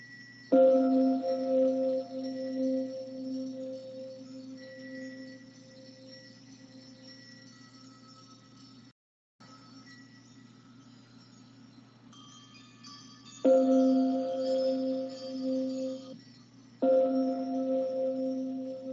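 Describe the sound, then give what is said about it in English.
Resonant bells ring out with long, humming sustain. A first strike lingers, a brief gap falls near the middle, then two more strikes arrive later, clear, with no voices. “Listen to the bells, the chimes, and then ask, what is aware of this?”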